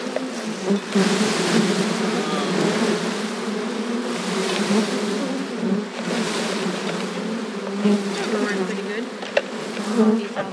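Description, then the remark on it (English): A dense swarm of honeybees buzzes loudly and continuously, a thick droning hum that swells and surges as the mass of bees is shaken out and dumped in around their caged queen, with faint rustling underneath and no talking. “Okay, I'm going to dump them in.”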